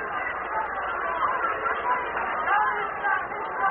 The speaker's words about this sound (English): And you can hear the fans from Sumter, South Carolina, Bobby's hometown, applauding.